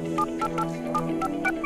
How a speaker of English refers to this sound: What are you doing? Making a long-distance phone call. Beijing Hotel.